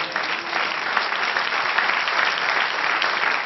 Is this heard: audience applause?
yes